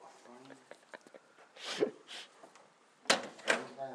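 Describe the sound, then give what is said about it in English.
A door swings open with a soft whoosh, then shuts a moment later with a sharper thud, while muffled voices murmur in the background. “Oh, you're going past me, you're not taking the door with me.”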